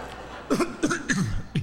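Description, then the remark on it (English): A quick series of four coughs, moderately loud, each a short rough burst spaced a few tenths of a second apart, with no talking. “I kept coughing all over it.”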